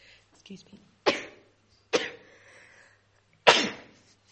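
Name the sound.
repeated sneezes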